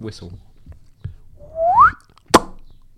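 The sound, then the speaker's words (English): A short, bright, jaunty whistle slides upward in pitch in an instrumental piece, standing out clearly. Brief murmuring voices come before it, and a sharp percussive knock follows. “Yeah, like a little whistle, a little jaunty whistle.”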